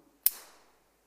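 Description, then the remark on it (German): A single sharp metallic snap of a carabiner gate closing as it is clipped into the front of a climbing harness while climbing, bright and crisp, with a short ringing tail that fades within half a second. No voices. “Und zwar, wenn ich mich hier an dem Karabiner, wenn ich den vorne in meinen Gurt einhake, dann hat es ein Geräusch, das liebe ich beim Klettern.”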